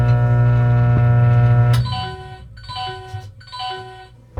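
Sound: microwave oven running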